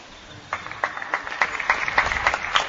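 A slow golf clap from another room: about eight soft, evenly spaced handclaps in a steady unhurried rhythm, moderately quiet, with no voices.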